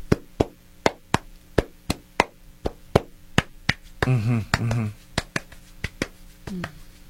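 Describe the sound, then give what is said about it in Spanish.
A steady run of about twenty hollow, cupped-hand claps at an even pace, with a brief stretch of someone speaking over them midway. “O ahuecándolas para hacer un aplauso con más cuerpo.”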